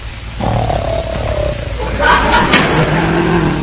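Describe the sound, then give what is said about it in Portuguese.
Loud, rough snoring rumbles steadily for several seconds, a deep grating drone with rising, wavering tones layered over it, as if more than one sleeper is snoring at once. “os heróis estão roncando como uns porcos.”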